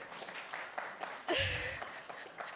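A crowd applauds steadily for a few seconds, a dense patter of many hands at moderate volume, with a brief louder swell and a whistle-like cheer partway through.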